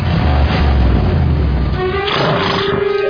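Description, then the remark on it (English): A car engine is revved twice, loudly, a deep throaty rumble giving way to a rising, whining surge of engine pitch, with no voices present. “Now, rev your engine twice.”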